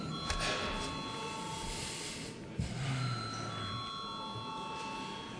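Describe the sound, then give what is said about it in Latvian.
A chairman's bell rung to call a vote after a debate among deputies: steady, continuous ringing for the whole clip, a sustained bright buzzing tone at even loudness with no talking over it. “Lūdzu zvanu.”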